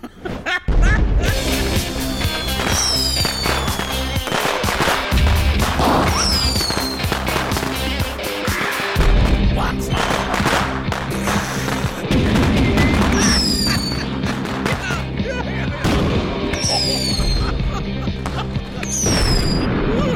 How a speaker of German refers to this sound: An unserer Bergbühne gehört Pyrotechnik seit jeher zur Grundausstattung, egal welches Stück. Knallbonbons für die kindlichen Neigungen im Publikum.